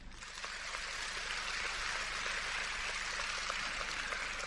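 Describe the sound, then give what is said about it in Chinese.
A crowd breaks into sustained applause, a dense, steady wash of many hands clapping that starts abruptly and stays loud and even throughout, with no voices standing out. “哎呀，一听到财运好了就鼓掌了”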